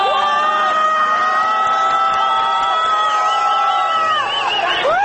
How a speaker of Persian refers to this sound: یک گروه از موتوری‌های ضد شورش از بالا می‌آیند و با سر و صدای زیاد از کنار مردمی که در پیاده رو ایستادند حرکت می‌کنند. جمعیت هو می‌کشد.